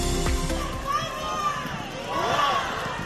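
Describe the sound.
A crowd in Letur cheers the visiting King and Queen, many voices overlapping in a steady roar that swells twice with high, rising calls across about three seconds.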